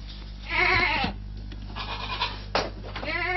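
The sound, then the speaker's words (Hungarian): Goats on a goat farm in Lakhegy bleat in two wavering calls, a long quavering one first and another near the end, fairly loud over a steady low hum of farm background. “A lakhegyi kecskefarmot rendszeresen ellenőrzi az állategészségügyi hatóság.”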